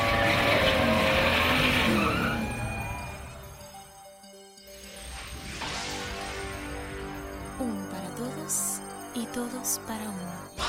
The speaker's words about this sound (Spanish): se encienden los motores. Daniel Cortés y Henry Díaz aprietan el acelerador a fondo